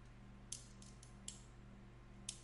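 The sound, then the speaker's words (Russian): A few sharp metallic clicks and taps from metal scissors being held against the weak magnets of a white-gold-plated metal item, irregularly spaced, over a steady low hum with no one talking. “Ой, господи, так, металлические ножницы там или что?”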